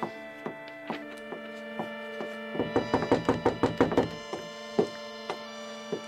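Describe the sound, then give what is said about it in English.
The Apostle Peter knocking on a door at night: a few spaced raps, then a quick, insistent flurry of knocks, then a few more. A steady sustained musical tone hums underneath throughout. “Rhoda, you go to the door and see who is calling this time of night.”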